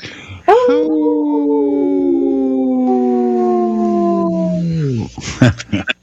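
wolves howling

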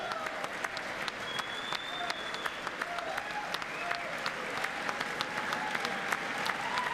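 crowd cheering and applauding

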